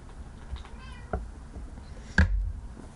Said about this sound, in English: Oh God, the cat just meowed and is looking at me. Hi, Yoda. Stupid naked cat that feels like stupid naked ball sack.